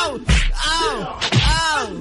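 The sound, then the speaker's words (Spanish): Two loud, pained yells from one voice, each starting abruptly and sliding in pitch, the second following about a second after the first, with no other sounds around them. “Ay, ¿cómo que ese último grito te doblaste?”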